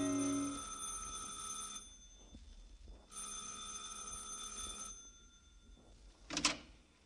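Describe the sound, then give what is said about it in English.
A bell on the second floor of a canopied apartment house rings in two long, bright, buzzing bursts separated by a short pause, followed moments later by a brief sharp clatter. No one speaks. “And on the second floor, ring a bell.”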